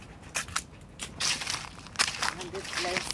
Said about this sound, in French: Et là, on s'avance dans un petit sentier. Il y a ces grandes feuilles là sur lesquelles on marche. Et au fur et à mesure qu'on s'avance dans cette forêt, le bruit de la circulation, tout proche pourtant, s'éloigne doucement.